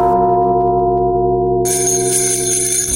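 Loud, ringing bells sustain a Christmas carol tune played only on bells, with a bright, shimmering jingle joining in partway through. No voices are present.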